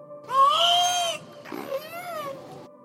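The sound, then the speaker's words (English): A female killer whale imitates human speech: two squeaky, nasal, strongly harmonic calls in quick succession, the first longer and louder, the second wavering in pitch, with no other voices. “She's the first killer whale ever to be recorded imitating human speech.”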